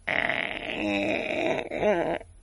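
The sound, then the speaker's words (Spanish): A voice imitates a creaking joint with a drawn-out, raspy groan lasting about two seconds, wavering in pitch and rising into a wobbly squeak near the end, fairly loud and alone. “Hablamos de las articulaciones, porque llega el frío, ya ha llegado el otoño y entonces las articulaciones hacen ese sonido peculiar. Sí. Bueno, las articulaciones hacen dos sonidos.”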